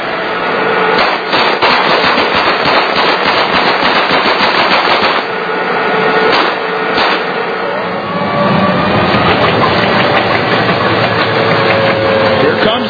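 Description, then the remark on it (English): A heavy United States Army tank's engine roars steadily as it runs over and crushes a car taken from a group of Iraqis, with dense bursts of loud crunching and cracking metal and a thin whining tone in the later seconds. “They don't understand, so we'll take their car and we'll crush it. The United States Army, tankers, whoa.”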